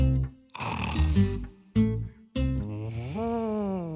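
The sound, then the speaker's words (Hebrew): A voice imitates an elephant's snoring: several rough, rumbling snores alternate between low voiced growls and breathy rasps, the last one long and drawn out with a rising, wavering pitch. “פיל ישן בשלווה, והוא בטח עייף.”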